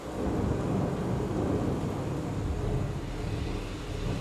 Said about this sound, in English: I'm in the most amazing interactive display. I'm in a darkened room and all the seasons are happening around me. I can hear the noises of nature. I'm now in a rainstorm in the forest.